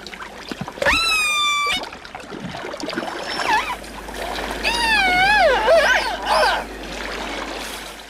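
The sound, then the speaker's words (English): Underwater recording of an orca, a black and white killer whale of the Pacific Northwest, calling: several loud, harmonic whistles and squealing calls that rise and bend in pitch, heard over a steady watery hiss, with short gaps between calls. “That is an orca.”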